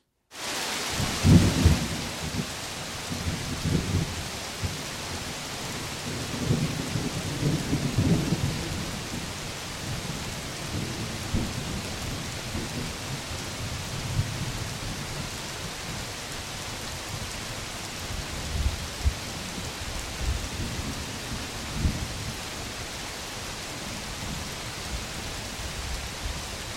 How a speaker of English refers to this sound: Here from the rainforest of Borneo, this is 1991, the rain, thunder, and lightning coming on like a freight train, the Tanjung Harapan Forest.